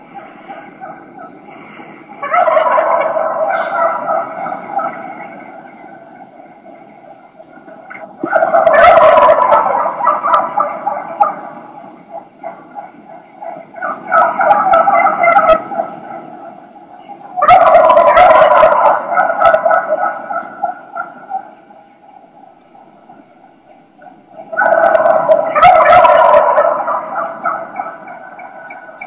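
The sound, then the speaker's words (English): A flock of wild turkey hens and gobblers roosted in a tree calls nonstop in early season: loud, rattling gobbles burst out every few seconds over a steady, busy layer of hen yelps and clucks, with no talking. “You'll just hear a bunch of chaos. There's a bunch of hens and a bunch of gobblers in the tree.”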